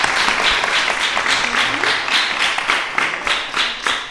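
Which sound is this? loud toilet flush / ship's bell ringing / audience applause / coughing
audience applause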